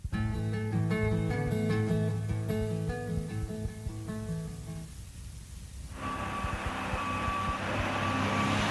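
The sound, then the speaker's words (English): A cement truck arriving at a construction site: a heavy engine drones with steady tonal hums, then a louder rush of diesel noise as a reversing alarm beeps in slow, regular pulses. Fairly loud, with no talking. “The truck drivers are coming with the cement.”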